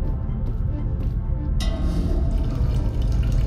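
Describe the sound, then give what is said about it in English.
Water is poured and drunk: it splashes and gurgles steadily, turning brighter and more hissing partway through as the pour fills a container, with no voices over it. “Drinking water will decrease your oxygen supply.”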